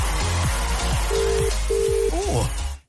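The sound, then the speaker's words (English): A phone line dials with a few quick low blips, then a Dublin ringback tone sounds in two steady, evenly spaced buzzes over a busy, murky background, with no clear talking. “It's ringing. That's Dublin ringtone right there.”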